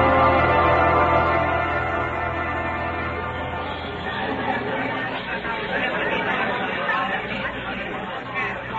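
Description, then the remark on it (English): A loud, agitated crowd in a courtroom murmurs and shouts all at once, a dense wall of overlapping voices that swells and churns steadily without pause, no single voice standing out. “this is more like an angry football crowd than a courtroom.”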